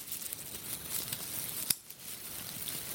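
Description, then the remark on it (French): Soft, continuous crackling and rustling with sharp isolated clicks near the middle and end, made by clicking a four-color pen to imitate small pieces of charcoal crackling in a fire, fairly quiet, no voices. “je t'invite à faire claquer ce stylo 4 couleurs en même temps, parce qu'il y a toujours des petits morceaux de charbon qui craquent.”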